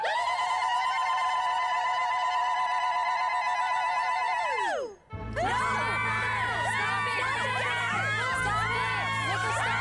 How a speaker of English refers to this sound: Well, so you're the new top lady? Congratulations. Applaud her!